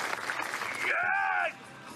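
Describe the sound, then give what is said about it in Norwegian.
A dense wash of clapping applause fills the first part, then a sustained tonal sound, like a cheer or music note, rises over it before the noise drops to a quieter hum. “Det må være klapping. Er det applaus?”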